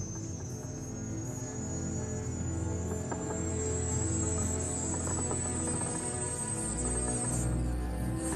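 A lump of rock vibrating very fast inside a sealed glass sphere, behind a locked door in a sickbay alcove, gives a continuous high, shrill buzzing whine that creeps slightly upward in pitch over a low steady hum, with no voices.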